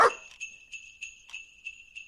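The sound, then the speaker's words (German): Sleigh bells jingle in a steady, bright rhythm, shaking roughly three times a second, after a brief sharp sound at the start. No one speaks. “Klingt wie Glöckchen.”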